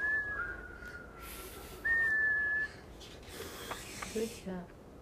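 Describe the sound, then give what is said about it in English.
Someone whistles a steady, shrill note imitating a tea kettle: a short blast, then a longer, louder one held for under a second, followed by a little breathy hiss. “The tea kettle whistled.”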